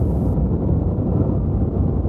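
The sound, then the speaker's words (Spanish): Steady, unbroken noise like untuned TV static, heavy in the low end with a soft, even rush that never changes in level, heard alone without any voices. “Un ruido constante y uniforme como el del aire acondicionado. O la tele, sin sintonizar. El ruido blanco.”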